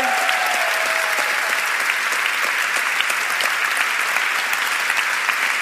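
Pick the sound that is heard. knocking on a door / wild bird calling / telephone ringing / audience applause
audience applause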